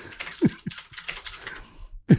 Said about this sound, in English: All right. Loud typing.